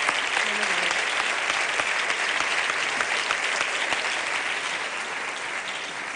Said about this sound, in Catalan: Aquest jurat és el que ha decidit el palmarès. I aquesta nit en coneixerem el resultat. Un aplaudiment per ells, sisplau.